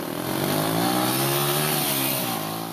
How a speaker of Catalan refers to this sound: Em va fer pujar una moto de gran cilindrada.